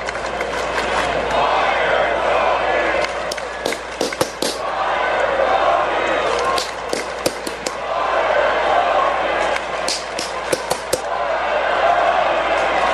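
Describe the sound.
A roaring stadium crowd chants steadily while sharp claps ring out in uneven bursts, some loud, snapping hits standing out above the dense wash of voices.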